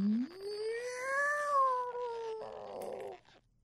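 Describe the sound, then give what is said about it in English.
A person imitates a cat with one long, drawn-out meow that rises, holds, then trails off into a raspy, breathy ending. The voice is fairly loud, with no other talking. “Did I just meow? Did I just really just make a sound like a what is going on?”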